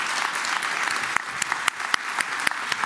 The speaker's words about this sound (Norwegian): Applaus til Anders Bakken og Guro Rygg.